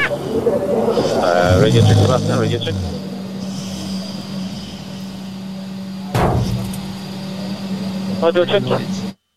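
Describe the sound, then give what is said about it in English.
Riding inside a moving Toyota at Fuji, during the Fuji 6 Hours: a steady low engine drone runs throughout, with voices talking at the start and again near the end, and one sharp thump partway through. “I think I should be careful, but I think it was in Fuji, in Toyota, when I fell asleep in the car, no? Yes, it absolutely is.”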